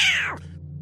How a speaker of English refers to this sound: Yeah, and animals are very keen at sensing earthquakes. This cat was clearly shaken up. You could hear it.